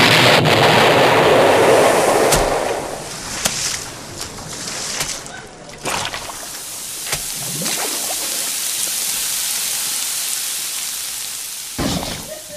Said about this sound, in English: Those explosions were slightly larger than we had calculated, Jit.